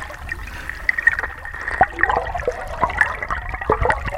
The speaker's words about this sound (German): Jetzt stehe ich hier fast bis zur Brust im Wasser. Wie klingt denn eigentlich die Strömung mit dem Unterwassermikrofon? Ich halte es mal rein. Plätschert ein bisschen.